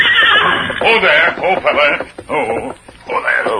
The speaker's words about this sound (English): Look, Kemosabe. Horse without rider grazed along trail ahead. His rider may have had an accident.